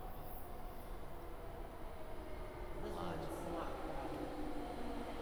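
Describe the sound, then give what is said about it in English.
A subway train on the yellow line rolls steadily along the rails, a continuous rumble with rattling wheels that grows slightly louder partway through, with faint voices murmuring beneath the noise. “They're color-coded, Mom. We needed the green one. I got us on the yellow one.”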